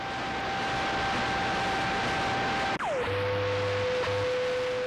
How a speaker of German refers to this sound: Wenn da einfach kein Signal, kein UKW-Signal da ist, dann hebt das Radio quasi dieses Grundrauschen so laut, dass es so laut ist, wie jetzt wäre da ein Radiosignal, und das ist dann dieses Rauschen.